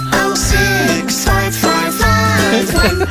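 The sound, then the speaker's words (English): An Alexa smart speaker plays a short, bright musical jingle that sings a saved phone number for kids to remember: loud melodic notes in rhythmic bursts about every half second, with no one talking over it. “This little song will help you know what phone number to call.”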